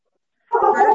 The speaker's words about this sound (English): Sorry, I have a new dog with puppies.